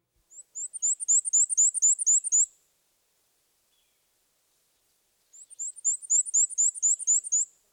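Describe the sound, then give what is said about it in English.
Two bursts of a black-and-white warbler's song, each a rapid series of high, thin, squeaky two-note phrases repeated about a dozen times, separated by a few seconds of silence; clear. “For instance, many birders think the black and white warbler sounds like a squeaky wheelbarrow.”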